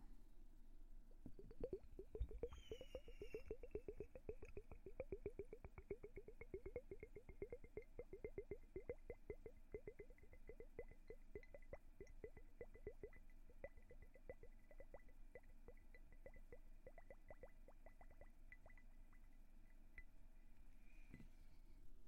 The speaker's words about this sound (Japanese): 泡グラスの音はどうでしたか？コポコポの音でリラックスできたら嬉しいなって思います。